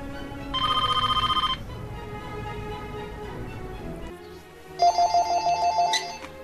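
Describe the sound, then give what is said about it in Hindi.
A home telephone rings unanswered in two rapid trilling bursts separated by a few seconds of pause, clear, with a low background murmur beneath the first ring and no talking. “Receiver उठा लें, अगर सुन रहे हैं तो प्लीज फोन उठा लें।”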